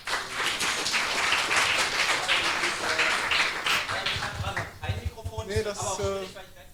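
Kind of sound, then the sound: crowd, warm applause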